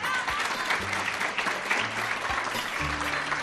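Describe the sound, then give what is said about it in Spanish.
Steady, dense applause from an audience at Centro Comercial Ferial Plaza, during the final of the COPE Guadalajara children's short-story contest between schools. A continuous wash of clapping hands fills the whole stretch, with a few low tonal hums sounding faintly underneath. “Tiempo habrá, pero ante todo, este tiempo, el que estamos disfrutando aquí en Centro Comercial Ferial Plaza, se merece un fuerte aplauso, chicos.”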